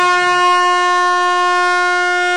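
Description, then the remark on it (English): A single loud, sustained air horn blast blares at a steady pitch for a couple of seconds, harsh and brassy, with no voices alongside it. “And you just pull out your air horn, and you just hit that air horn.”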